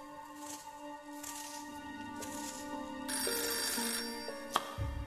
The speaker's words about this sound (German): Da klingelte das Telefon.